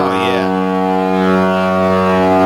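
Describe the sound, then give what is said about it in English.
A loud, deep foghorn blast drones steadily for the full length, its rich, buzzy tone holding constant, with a brief hiss of background noise near the start. “We're looking for foghorns on ice.”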